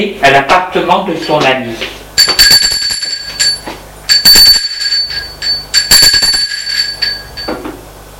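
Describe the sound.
A voice speaks briefly, then the doorbell of a friend's apartment rings in three loud, shrill, buzzing bursts, each lasting about a second with short pauses between them.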